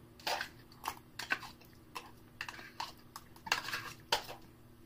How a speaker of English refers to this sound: I'm going to eat this pudding cup as fast as I can.